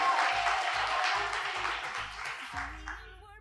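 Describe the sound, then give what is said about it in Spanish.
A burst of quiz audience applause after a correct answer, a dense wash of clapping over a steady thumping music beat, fading after a couple of seconds as a brief musical sting takes over. “Podéis aplaudir si queréis, ¿eh?”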